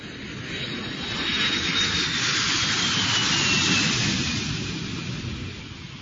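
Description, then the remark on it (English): An airplane passes overhead, its broad engine roar swelling toward the middle and easing slightly, with a faint high whine on top. There is no talking. “You can go on a plane.”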